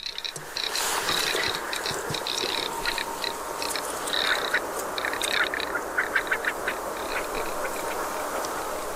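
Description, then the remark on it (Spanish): A duck calls in the Salbueva wetland, with repeated raspy, rattling notes over a steady bed of chirps and croaks from other creatures. No voices are heard. “Es un pato y este es un sonido calentito, obtenido directamente del humedal de Salbueva, a pesar de este fresco que tenemos en el día de hoy.”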